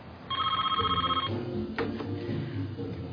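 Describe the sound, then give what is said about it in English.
A telephone rings with a rapid electronic trill for about a second, clear, followed by a low background murmur and a brief click. “So you call her up and tell her don't talk to any Cubans.”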